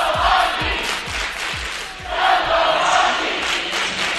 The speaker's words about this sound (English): Large contingent of Tufts fans here, actually from a track and field and swimming event. And they're all down there cheering their team on to victory, as well are some of the Middlebury swimmers and track people at the other end.